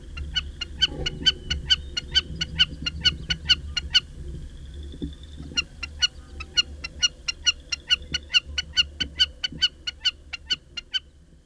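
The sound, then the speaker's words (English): A Wilson's snipe gives its typical call, a long rapid series of sharp, clipped notes repeated in steady rhythm, briefly pausing midway, over a low, constant rumble. “The bird of the month for May is the Wilson Snipe. This is the sound that you typically hear.”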